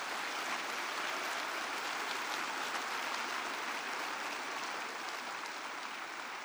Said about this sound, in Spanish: ¿Le puedes dar un fuerte aplauso al Señor esta mañana?